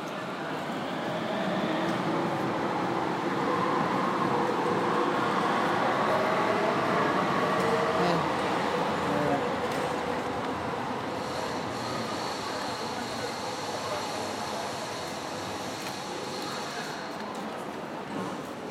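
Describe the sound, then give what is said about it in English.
A tram rolls to a stop in a town square at a green light: a steady, loud mechanical rumble and hiss that eases slightly, with a thin high whine appearing midway and indistinct voices speaking Italian murmuring underneath. “So it's green, and the tram is stopping.”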